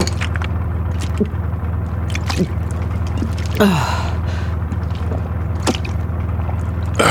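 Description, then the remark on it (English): Someone opens a plastic water bottle with a crackly twist and takes a few gulps and sighs, over a steady low engine hum. “But I could do with a bottle of water.”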